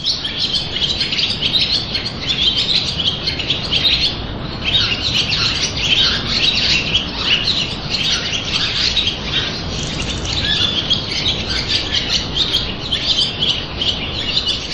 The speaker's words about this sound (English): And then there are the tiny sounds as well. You can be there and it's very, very tranquil and peaceful. And suddenly you'll just hear a pigeon's wing as it flies from one ledge to another in the gatehouse.